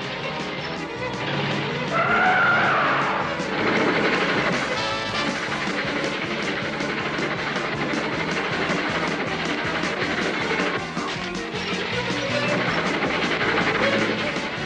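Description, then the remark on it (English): Fred's car engine roars continuously as tires squeal through sharp swerves along railroad tracks instead of the road, with a high screech early on and loud, chaotic rumbling and rattling throughout, intense. “Uh-oh, Fred, we should be going the other way. And on the road, not railroad tracks.”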